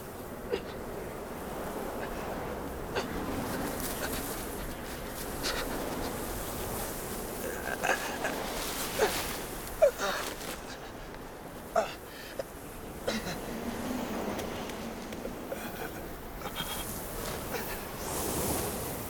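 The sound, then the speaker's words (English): Wind from a swirling snowstorm across a rocky Afghan plateau in darkness roars steadily and fills the scene, rising and falling in gusts, with a few sharp clicks and knocks breaking through now and then. “Snow swirls across the rocky Afghan plateau.”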